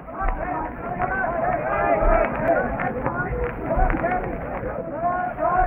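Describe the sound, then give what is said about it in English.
A crowd of many voices calling out last farewells to one another on a pier as boys parade through the pier shed to board a steamer, overlapping in a steady, muffled babble with raised shouts rising and falling throughout and faint low thumps underneath. “You can hear the last farewells there, hear them calling one to another.”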